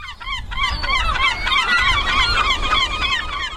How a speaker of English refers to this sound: The sound of seagulls. If you've ever eaten on a beach, it won't surprise you to hear they watch us when we eat.